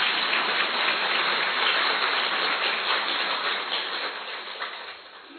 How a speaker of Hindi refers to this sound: तो हम तो यही कहेंगे कि जो पहुंच गए वो बहुत बहुत बहुत भाग्यशाली हैं, तो अपने भाग्य के लिए और ताली।